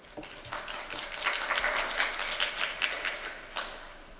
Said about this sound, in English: And please join me in giving the speakers another round of applause.